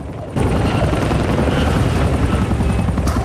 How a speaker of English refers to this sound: She can hear a helicopter, but there's no sign of one above.